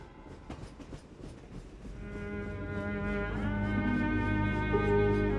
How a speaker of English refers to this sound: Hey, trains. Then when I hear that sound, I'm immediately transported back to 1944 and the trip to Auschwitz.